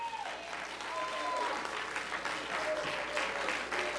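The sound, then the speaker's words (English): An audience applauds the deacons and ministers of music in a dense, steady roar of many hands clapping that holds at full strength for the whole stretch, with faint voices and a few whoops mixed into the clapping. “To these deacons who confidently carry the covenant of Christ, and to these ministers of music, why don't you give them one more hand?”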